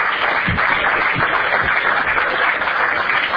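A crowd applauds steadily for Manos, many hands clapping in a dense, continuous wash of sound that holds at an even level throughout, with no voices standing out.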